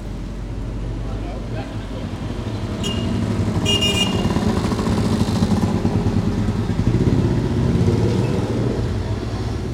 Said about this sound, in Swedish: Ja, trafikrytmen är ju som bekant något mer hetsig än i Sverige och många ligger på signalhornet för att påskynda eller att de tror sig komma fortare fram då.